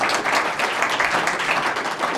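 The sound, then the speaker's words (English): A crowd gives Chris Smith a round of applause, many hands clapping in a dense, continuous wash of sound at a fairly loud, even level with no voices on top. “And just give Chris Smith a round of applause.”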